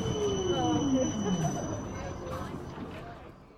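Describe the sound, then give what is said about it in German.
A tram pulls in, its wheels letting out a falling metallic squeal over a low rumble that fades over a few seconds, with faint voices in the background. “Ah, okay, da kommt die Straßenbahn.”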